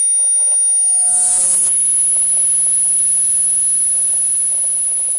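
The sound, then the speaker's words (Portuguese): A piercing high-pitched electronic whine rings steadily over crackly, static-like noise and a low hum, with a brief noisy surge near the start before the tone settles and holds. “escutaram um som, que inicialmente se parecia com estática de rádio, e foi evoluindo até algo próximo a uma microfonia.”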